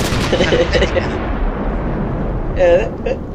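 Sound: cannon blast sound effect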